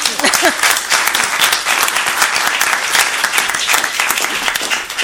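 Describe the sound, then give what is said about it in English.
A crowd at an event applauds the woman who served as the event's single point of contact, many hands clapping in a dense, continuous patter that stays fairly loud throughout, with a brief murmur of voices near the start. “This lady has really been the single point of contact for this event, and I would like to give her a round of applause.”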